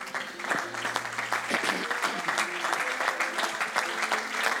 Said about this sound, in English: I wonder this morning if we could all just put our hands together and love on Jesus.